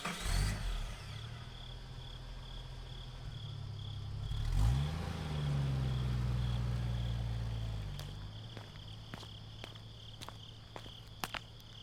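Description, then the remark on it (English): At night, a car engine rumbles and swells as it passes by midway through, over a steady high chirping of crickets, followed by a series of sharp clicking steps near the end. “You lay there during the dead of night, restless, still waiting as the crickets and the sounds of the passing cars fill your ears.”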